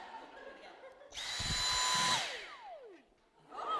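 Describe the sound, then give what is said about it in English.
The motor of a Dyson vacuum (only part of the vacuum) whines loudly at a high pitch for about a second, then spins down with a falling, jet-like tone that fades away; a brief whir rises again at the end. “It sounds like a jet engine winding down.”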